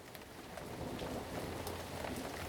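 Steady rain falls continuously, a dense hiss of drops with faint patters on a surface, fairly quiet and even throughout with no voices.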